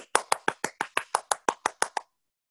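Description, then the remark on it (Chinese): A single pair of hands claps about a dozen times in a quick, even rhythm, each clap sharp and bright, then stops abruptly. No voices accompany it. “欢迎你开始了解21世纪的生意旅程，掌声。”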